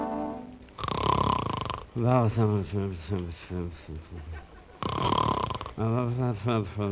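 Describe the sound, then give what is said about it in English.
Two loud, rasping snores, each followed by a stretch of drowsy, wordless mumbling from a man, repeating in a slow sleep rhythm. “Every night it's the same thing, snoring and mumbling.”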